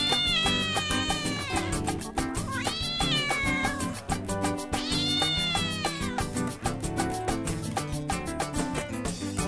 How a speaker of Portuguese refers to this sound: Deixa a menina gritar miau pra namorar, isso é natural. Miau, miau, miau, miau, miau, miau, a gata tá no cio.